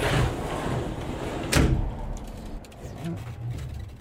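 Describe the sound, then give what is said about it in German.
A sliding door on the wardrobe-sized swap container on rollers of an Onomotion Ono cargo bike, which has sliding doors on both sides, rolls along and shuts with one sharp, loud bang midway, set against a steady rushing background noise that continues afterward. “Auf der Ladefläche ein Wechselcontainer auf Rollen, groß wie ein Kleiderschrank, Schiebetüren auf beiden Seiten.”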